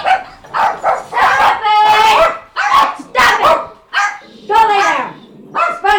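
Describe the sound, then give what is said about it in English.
Several dogs in a home with seven dogs bark and yip excitedly in loud bursts, overlapping one another in a rapid, uneven string of high-pitched barks that fills the whole stretch. “doorbell doesn't work, get the dogs barking, pets chewed through the wires.”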